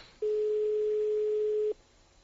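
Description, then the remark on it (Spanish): A single steady electronic telephone ringing tone, a mid-pitched beep lasting about a second and a half, sounding once on an unanswered call to a pitch-side commentator who does not pick up, with quiet line hiss before and after. “El que llamamos ahora, que esto fuera real y el tío sin coger el teléfono.”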